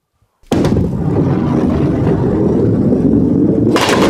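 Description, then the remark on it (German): At a skittle (Kegel) alley, a heavy ball rolls with a loud, steady low rumble for about three seconds, then crashes into the skittles with a sharp, bright clatter at the end. No voices. “Und hier mit der Kugel versuche ich gleich die Kegel da hinten umzukegeln.”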